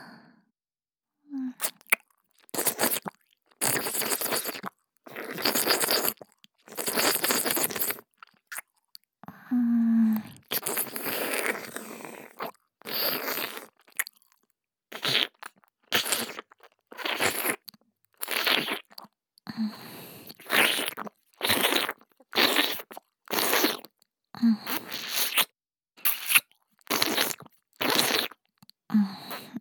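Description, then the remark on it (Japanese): Wet ear-licking mouth sounds, a steady run of moist smacking and slurping bursts repeating for about half a minute with brief gaps, moderately loud and with no talking. “こっちのお耳もなめなめされて気持ちいいでしょ。”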